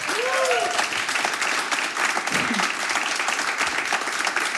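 Steady, dense applause from a crowd for a singer about to perform live, many hands clapping at once with a brief cheer or whistle near the start, continuing evenly loud throughout.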